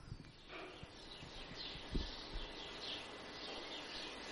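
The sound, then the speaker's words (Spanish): Small birds chirp faintly and intermittently, their high calls scattered over a steady outdoor hiss with a few soft low thumps. “Bueno, estos pájaros por aquí. Son pajaritos, para que tú veas, te la vayas poniendo a tono.”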